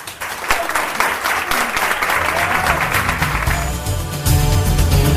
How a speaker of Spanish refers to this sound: Bueno, pues el hall del Hospital Comarcal de Laredo, el hall principal que se llenó ayer de aplausos de participantes en la marcha por el Día de la Salud Mental.